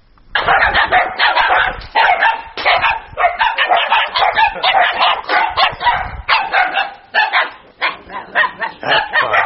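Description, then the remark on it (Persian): Several stray dogs bark continuously in the streets of the town of Kulob, in overlapping, rapid bursts, loud, forming a dense chorus of barking with no pauses for nearly ten seconds. “مسئولین شهرداری کولاب از افزایش سگهای بی‌صاحب یا به اصطلاح دایدو در خیابانهای شهر اظهار نگرانی می نمایند.”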